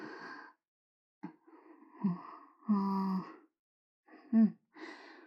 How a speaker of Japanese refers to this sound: 体は熱いし、はぁはぁうざいのが気になるけど。